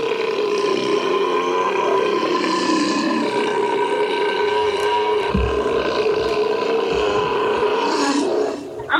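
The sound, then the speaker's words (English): A long, loud belch rumbles, drawn out for several seconds with a rough, roaring, throaty tone before cutting off abruptly; no one speaks. “I got to belch.”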